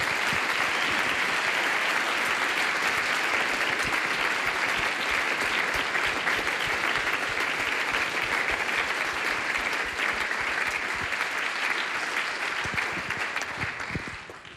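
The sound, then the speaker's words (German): A crowd applauds a 12-year-old trumpet player newly joining the band, steadily for about fourteen seconds, a dense and loud wash of clapping that holds even throughout and thins slightly at the very end. No voices cut through. “das ist dein Applaus.”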